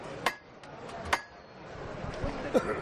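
A metal knocker raps on a procession float three times, each strike a sharp, ringing clack with irregular pauses between, over a soft background murmur.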